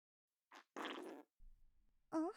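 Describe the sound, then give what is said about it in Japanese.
A short burst and then a longer wet, bubbly fart-like sputter of air from a vagina, followed by faint low gurgling and a brief voice sound at the end. “なんか変な音してる。おならみたいなブビブビビって可愛い音だね。”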